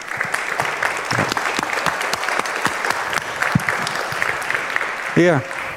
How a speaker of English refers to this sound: And give a warm round of applause